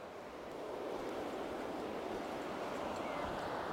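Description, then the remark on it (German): Steady, dense rushing of river rapids downstream of a small suspension bridge, with a broad hiss and gurgling texture that holds constant throughout, moderately loud with no voices. “Flussabwärts, Stromschnellen mit mächtigem Rauschen und Gurgeln.”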